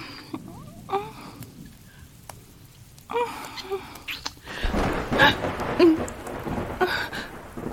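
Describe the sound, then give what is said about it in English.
Steady rain patters throughout, then a deep roll of thunder swells up about halfway through and rumbles on loudly to the end, with the rain continuing beneath it. “I'm not scared of the thunder when you're holding me.”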